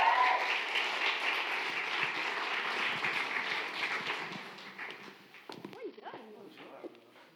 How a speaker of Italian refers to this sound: Facciamo un applauso.